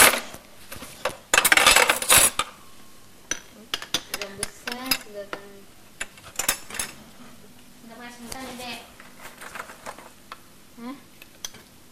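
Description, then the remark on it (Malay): Metal cutlery, including a fork, clinks and scrapes against dishes in a quick, irregular clatter, loudest early on, with a voice speaking throughout. “Eh, masa pakai garpu.”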